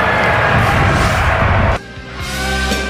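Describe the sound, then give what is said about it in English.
A large crowd at the 2024 NFL Draft boos loudly in a dense, sustained roar for nearly two seconds as the Green Bay Packers are announced as hosts of the 2025 NFL Draft, then it cuts off abruptly into a quieter, steadier tonal hum. “I like y'all booing the fact that the Packers are hosting.”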